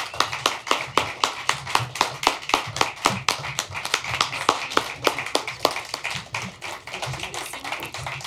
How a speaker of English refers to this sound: So let's, as we get set up, could I have one more round of applause for all of our veterans coming today?